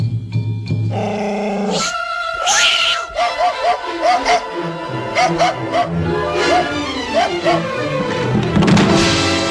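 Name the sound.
cat meowing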